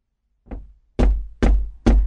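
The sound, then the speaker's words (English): A fisherman knocks four times on the wooden door of a priest's house early in the morning: a soft first tap, then three loud, heavy thuds at an even, deliberate pace. No voices are heard. “Early the next morning, the fisherman went to the priest's house and knocked on his door.”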